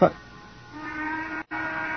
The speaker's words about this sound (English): That's the Burke Platt factory whistle.